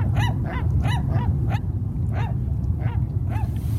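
A flock of seagulls being fed bread squawks in quick, repeated harsh cries, about eight calls in under four seconds, loud over a steady low rumble of wind or surf.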